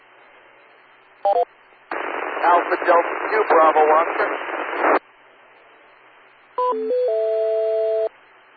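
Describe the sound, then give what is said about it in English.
A brief burst of DTMF touch-tone beeps cuts through hissy radio static on a radio repeater link as someone tries to connect through EchoLink; a voice speaks over the narrow-band link, then another string of dialing tones ends in a sustained steady tone. “He's trying to get through Echo Link.”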